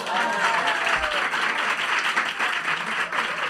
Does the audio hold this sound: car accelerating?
no